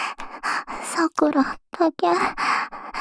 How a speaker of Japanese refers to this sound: こんなにお兄が可愛く、はぁはぁってあえぐところ。